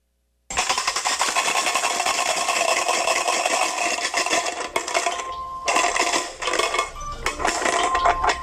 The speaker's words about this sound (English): The sound of Boggle shaking the letter cubes around in the thing before starting the timer.